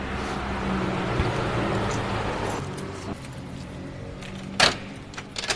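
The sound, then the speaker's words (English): Keys jingle and clink in short metallic bursts, the sharpest jangle near the end, over a steady low rumble of passing traffic outdoors. “Should we go inside? Let me find my keys.”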